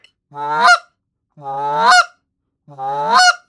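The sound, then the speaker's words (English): Three loud, evenly spaced goose honks, each a rising, nasal call ending in a sharp break, made by a person imitating a goose with cupped hands, voicing a basic honk as 'ooh' ending in 'it'. Nothing else is heard between the calls. “And that's your basic honk.”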